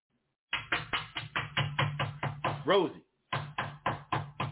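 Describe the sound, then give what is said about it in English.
A voice imitates rapid, insistent pounding on a mother's front door at 1 o'clock in the morning: a quick run of about nine loud knocks and a brief vocal cry, a short pause, then five more heavy knocks. “1 o'clock in the morning, he banging on my mom's door.”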